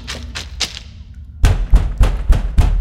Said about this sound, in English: Look at how big that door is. It's huge. Let's knock.